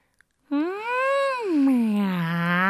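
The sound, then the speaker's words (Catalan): A person imitates a cat with a single long, drawn-out meow that rises, then slides down in pitch. It is loud, following a brief click and a moment of silence. “Però un dia, un gat se li va apropar.”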